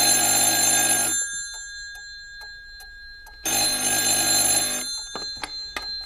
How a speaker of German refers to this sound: Das Telefon klingelte.